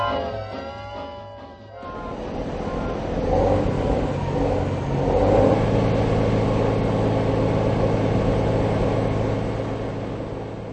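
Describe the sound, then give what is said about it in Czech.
Heavy freight truck traffic rumbles in a loud, continuous roar of deep engine noise that swells as vehicles pass, after a brief tonal blare at the start. “Rostoucí objem nákladní dopravy může mít různé následky. Hluk, znečištění ovzduší, otřesy a tak podobně.”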